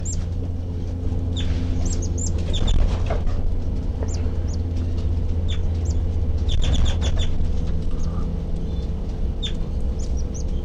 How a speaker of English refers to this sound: The baby birds are peeping, and I'm right underneath the nest.